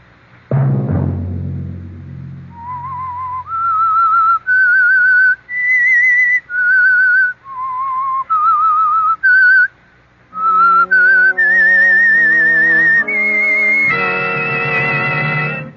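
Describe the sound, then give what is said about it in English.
An eerie whistled tune, the whistle of The Whistler from the CBS radio program The Whistler, of slow, sustained notes that waver slightly, rising and falling. It opens over a low struck chord, and a swelling instrumental accompaniment joins beneath the whistling toward the end. “Have you heard the strange tales of the Whistler?”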